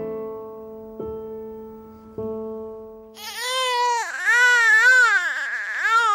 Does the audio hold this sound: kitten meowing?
no